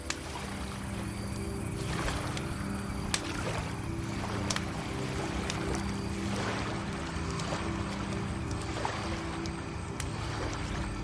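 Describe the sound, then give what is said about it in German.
Lake water laps gently at the shore in soft, regular splashes about every second or two, over a steady low rumble, with no voices. “Sacht rollt im Hintergrund das Wasser des Sees in gleichmäßigen Bewegungen an das Ufer.”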